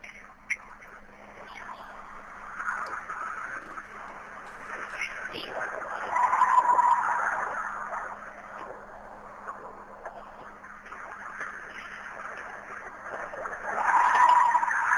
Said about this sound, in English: So anyway, I want to play the howl again, but I'm also going to play after that some fox calls. So take a listen once again to the Bigfoot howl.